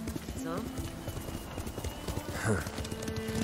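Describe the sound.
Horse hooves clip-clop in a steady, rhythmic gait as someone rides, the hoofbeats continuous, with voices talking over them.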